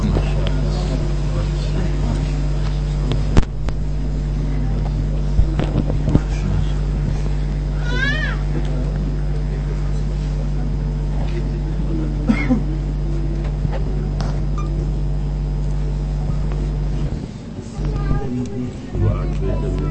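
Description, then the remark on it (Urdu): A car's engine drones steadily with continuous low road rumble, heard from inside the vehicle throughout, with faint murmuring voices and a brief high-pitched squeak partway through. “جی حضرت میں نے ان شاء اللہ گاڑی روک دیتے ہیں ان شاء اللہ.”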